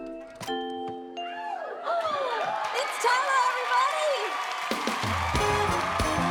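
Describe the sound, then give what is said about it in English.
A festive seasonal doorbell chime rings out a short tune of bright tones, quickly followed by excited, overlapping voices calling out and exclaiming in greeting. “Thank God we installed that seasonal doorbell.”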